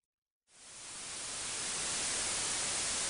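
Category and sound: sound effect, TV static white noise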